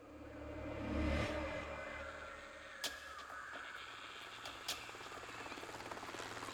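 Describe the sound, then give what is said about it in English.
A helicopter landing in grass in Vietnam: its heavy rotor drone swells up, then settles into a steady, churning roar, broken twice by sharp knocks. No one speaks. “The mission began as the helicopter landed gently in the grass.”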